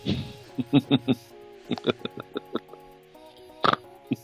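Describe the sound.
A person makes a quick series of short, piggy snorts through the nose, in a few bursts with brief pauses between them, fairly loud against a faint background hum.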